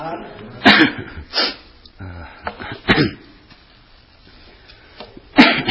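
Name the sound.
coughing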